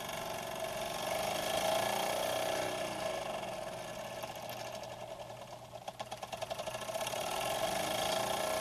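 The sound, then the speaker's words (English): A small, regular steam engine runs steadily, its rapid mechanical chuffing and whirring continuous throughout, with a brief stutter of sharper clicks before it settles back into a smooth hum. “There's the steam. A regular steam engine.”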